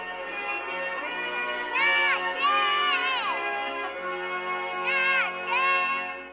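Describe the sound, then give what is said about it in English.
A young girl, the daughter of Max's girlfriend, cheers Max on at a race, her high-pitched voice shouting in several drawn-out bursts over a steady background of crowd noise, loud, with rising and falling cries. “She was cheering him on.”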